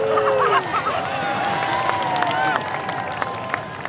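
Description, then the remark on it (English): A dense crowd of spectators pressed up to the Corgi Ninja Warrior Agility Course at a corgi conference roars and claps continuously, with scattered whistles and excited shouts rising above the steady wash of cheering and chatter throughout. “Fans are pressed up to the course in a thick crowd.”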